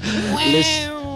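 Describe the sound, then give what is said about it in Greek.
A single drawn-out, strained cat yowl, loud, its pitch wavering up and then sagging down over about a second, with no talking. “Λες χιούμορ και ψοφάνει γάτες.”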